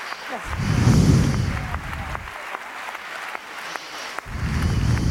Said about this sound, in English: Please welcome all the speakers with a big round of applause.